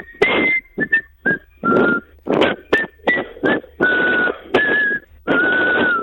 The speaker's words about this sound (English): I don't know what she was whistling. Neither do I. It wasn't the tune you were doing.